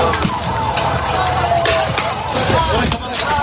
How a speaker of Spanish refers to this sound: Esto que estás escuchando son los disparos de gases lacrimógenos por parte de los gendarmes marroquíes a los migrantes que intentaron cruzar el pasado 24 de junio, en ese salto masivo que se produjo con un resultado trágico además.